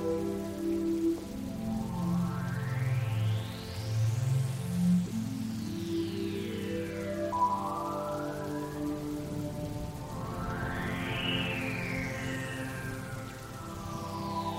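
rain falling

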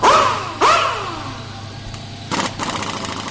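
motorcycle engine running

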